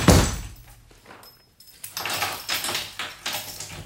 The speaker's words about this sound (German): und jetzt sperrst du gut zu und zieh bitte vorher die Tür fest ins Schloss.